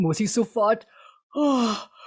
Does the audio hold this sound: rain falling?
no